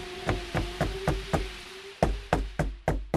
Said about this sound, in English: It is a dark, stormy night. He can hear the wind and the rain in the London streets. Suddenly, somebody knocks at the door.